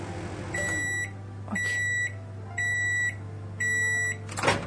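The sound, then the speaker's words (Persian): A microwave oven heating bread gives four evenly spaced, high-pitched electronic beeps, each about half a second long, over a steady low hum as its timer ends, followed by a short clunk as the door opens to take the bread out. “خب الان منتظر میشیم که تموم شه و وقتی هم که زمانی که باید رو سپری میکنه خودش یه بوق میزنه، یعنی چند تا 3-4 تا بوق میزنه.”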